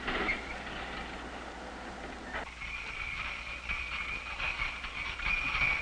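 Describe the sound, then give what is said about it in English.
A hot frying pan, boiled dry, is plunged into cold water in a repeated product durability test, giving a sharp burst of steam followed by a sustained loud hiss and sizzle with a high whistling tone, no voices present. “For instance, these frying pans are being boiled dry, then plunged into cold water thousands of times.”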